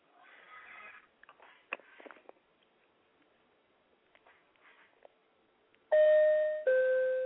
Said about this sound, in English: That's the seatbelt sound when you're on an airplane. When you hear that sound, it means to take your seat and buckle your seatbelts because it's about to get a little bumpy, fellas.